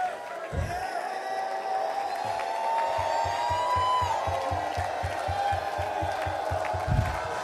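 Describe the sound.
A church audience claps in a steady rhythm while voices shout and call out over it in worship, loud, the clapping keeping a quick, even beat throughout.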